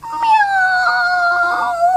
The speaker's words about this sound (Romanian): Miau.